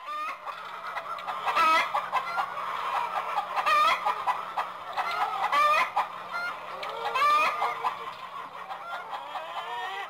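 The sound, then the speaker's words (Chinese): Hens cluck and cackle continuously for about ten seconds, a busy chorus of several birds with sharper squawks breaking out every couple of seconds and no talking. “我一向讨厌母鸡。”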